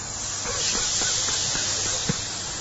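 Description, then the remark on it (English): A voice imitates a snake's hiss, a long, steady breathy hiss held for a couple of seconds at moderate loudness, with faint pulsing flutters running through it. “And the snakes just went on.”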